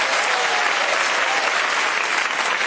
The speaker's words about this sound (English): You guys, can we give them a round of applause?